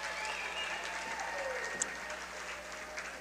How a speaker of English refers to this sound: Big round of applause from the Thayer Lady Bobcat fans on the job that Avery Bowers did tonight.